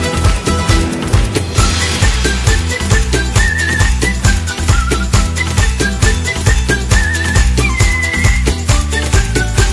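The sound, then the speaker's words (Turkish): A high, thin whistled melody weaves through a loud, busy band backing with a steady driving beat, the tune rising and falling in short phrases and held notes. “bir ıslık da sen çal, bir ıslık da sen”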